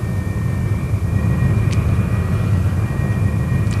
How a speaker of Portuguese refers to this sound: Para o primeiro voo, os motores a jato não estavam prontos. Após um primeiro voo de teste com um motor a pistão de 700 HP montado no nariz, Finalmente, em julho de 1942, o terceiro 262 fez seu primeiro voo a jato.